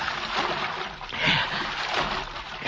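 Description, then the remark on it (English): Steady sloshing and splashing of water as a man wades along a creek bottom at night, with a few louder surges near the end; continuous, no voices. “He got to wade the creek, even if it is full of cotton mounds.”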